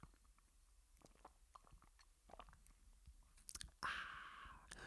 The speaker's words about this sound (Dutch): Ik heb nog even een glas water hier. Ik heb dorst. Ik heb er dorst van gekregen, jongens. Van het geklets. Even een slok water.